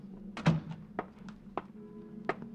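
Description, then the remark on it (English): A door opens at police headquarters at noon with a solid latch thunk followed by a few lighter knocks and clicks, over a steady low hum; no one speaks. “Noon at police headquarters, the opening door.”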